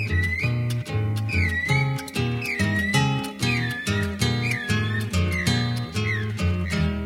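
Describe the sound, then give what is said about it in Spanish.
Over a steady, rhythmic instrumental backing, a high whistled bird-like call repeats about six times, each a short rising-and-falling glide imitating a guira cuckoo (pirincho). “Y allí se escucha el pirincho.”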